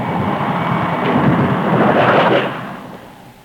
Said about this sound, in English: Well, I guess there'll be no customers tonight in this downpour.